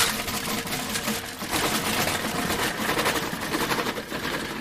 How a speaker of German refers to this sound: Morgens um 7:45 macht Herr Pöschk den Rollladen seines Geschäftes auf.